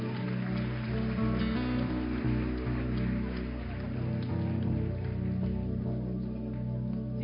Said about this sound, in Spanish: Un aplauso al Señor.